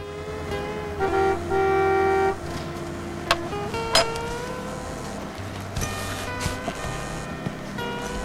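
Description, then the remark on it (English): A smart saloon car rolls up and idles in an outdoor car park outside a diner, with a sustained horn toot early on, a few sharp metallic clinks, and a low engine rumble near the end. “Then, drinking a coffee in the window seat of a diner, he sees a smart saloon car pull up in the car park.”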